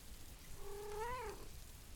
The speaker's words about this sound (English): I did not just hear a meow. No, I'm covering my ears.